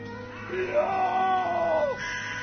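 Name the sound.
man screaming in agony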